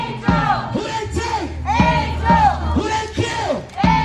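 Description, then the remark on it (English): A couple dozen loved ones and demonstrators chant in unison at a march from Fairhill Square Park around the Fairhill neighborhood, shouting a short phrase over and over in a steady, rhythmic cadence, the raised voices loud and strained. “Loved ones and demonstrators, a couple dozen people put together, marched for an hour and a half from Fairhill Square Park around the neighborhood.”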